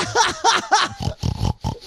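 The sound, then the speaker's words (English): A pull-string children's toy, its dial pointed at the pig, oinks: three quick, evenly spaced oinks followed by a burst of shorter, choppy grunts, loud and clear with no talking. “This dial, you point it towards the pig, and you pull the string, and it goes...”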